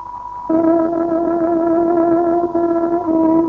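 A shortwave radio exact time signal from the Szabad Magyarország hangja station marking 17:00: a steady high tone rises at half a second into a loud, sustained, buzzy lower tone with harmonics that holds unbroken to the end, with no talking.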